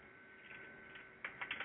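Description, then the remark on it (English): Quiet keyboard typing: a few soft clicks at first, then a short burst of four or five sharper, irregular keystrokes near the end. There is no talking. “excuse me for this, I'm typing up something.”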